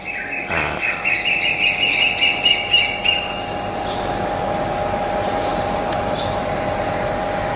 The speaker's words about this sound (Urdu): وہ مرغے کم تھے کہ اب وہ کوئل بھی ساتھ آ گیا